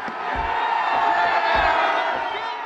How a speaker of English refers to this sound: It's a pretty large statue, a little more than 11 feet tall. And as it topples to the ground, the crowd goes wild.